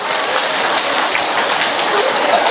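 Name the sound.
round of applause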